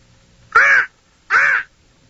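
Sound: crow cawing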